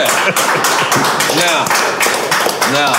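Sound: audience applause and cheering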